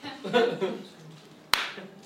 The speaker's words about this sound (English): Don't slow clap.